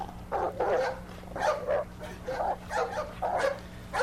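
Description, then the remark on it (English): A dog barks repeatedly, about half a dozen sharp, agitated barks in quick succession over a faint steady hum, as it catches up with a man and bites him on the calf. “And that's when one of the dogs caught up with him.”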